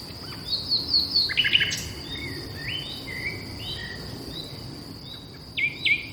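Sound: birds singing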